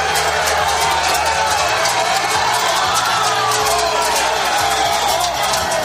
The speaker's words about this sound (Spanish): De hecho, un centenar de ellos se concentraron frente a las puertas del Ayuntamiento de Don Benito para demostrar su descontento entre caceroladas y gritos.